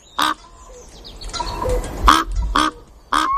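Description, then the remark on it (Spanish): Crows caw four times in harsh, loud calls, spaced irregularly, with soft outdoor ambience filling the gaps between them. “Los bosques. Los campos. La perdiz. Los cuervos.”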